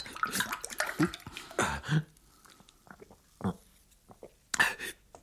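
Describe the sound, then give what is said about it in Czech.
Water pours into a glass in a few short, splashy bursts, fairly loud, separated by quieter pauses with some faint breathy voice sounds. “Zoboha, prosím tě, nalej mi trochu vody, rychle vod.”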